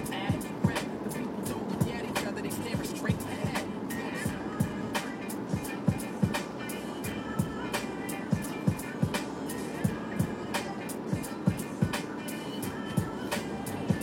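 A car stuck in rainy traffic, its low road rumble steady beneath frequent sharp knocks and taps scattered irregularly throughout, with a constant hiss of wet noise filling the background.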